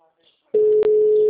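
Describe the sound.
A faint murmur of voice gives way to a telephone ringback tone: one steady, mid-pitched hum that starts abruptly and stays loud and unbroken, apart from a brief dip partway through.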